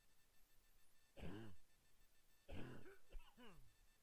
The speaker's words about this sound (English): pardon me, I have to cough.